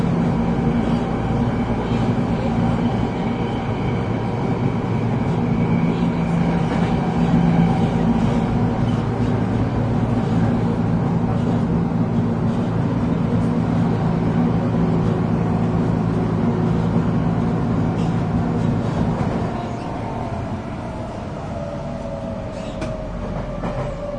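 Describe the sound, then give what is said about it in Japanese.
Steady, loud rumble inside a moving commuter train in Japan, with a low motor hum and faint wheel clatter; toward the end the noise eases and a falling whine suggests the train slowing as it approaches Urayasu station. “この電車をご利用ください。”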